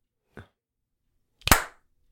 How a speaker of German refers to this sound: Hast du geklatscht? Ich hab geklatscht, hast du geschnipst? Ich hab geschnipst. Nee, hat man nicht gehört. Man hat dein Klatschen nicht gehört.